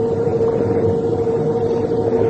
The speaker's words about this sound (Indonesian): Rupanya gemuruh air yang aku dengar, gemuruh air terjun.